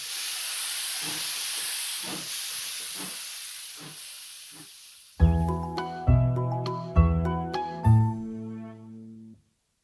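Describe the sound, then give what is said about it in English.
A steam train hisses loudly for several seconds, then its whistle sounds four short, bright blasts in quick succession before falling silent. “It's a train! A train!”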